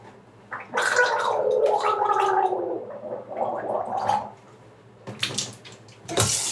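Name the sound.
gargling water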